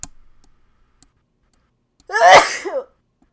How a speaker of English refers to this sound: Outtakes. Two solid sneezes.